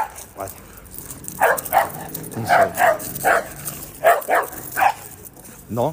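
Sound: dog barking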